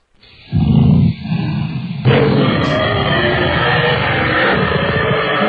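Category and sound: human body sound, snoring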